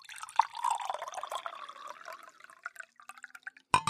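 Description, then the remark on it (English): A thick, silky white shaken cocktail pours steadily into a glass with a bubbling, gurgling trickle that slowly thins out into scattered drips, ending with a brief sharp clink. “So I'm going to put this down, and it's time to pour it.”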